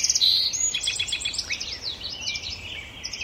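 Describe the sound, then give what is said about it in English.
Song sparrows, common yellowthroats, American robins and red-winged blackbirds sing at once in a busy dawn chorus at a marsh on Saturna Island, British Columbia, with overlapping trills, chirps and whistled phrases over a steady low background hum; no one speaks. “The marsh is now alive with the splashing of Virginia rails and dawn chorus of the song sparrows, common yellowthroats, American robins, and red-winged blackbirds.”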